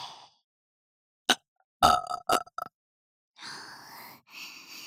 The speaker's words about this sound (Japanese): ご主人様に喜んでもらう自信、結構あるよ。私のゲップに、惚れちゃえ。